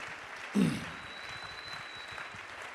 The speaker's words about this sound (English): Oh, let's clap our hands unto the Lord. Let's bless him and praise him.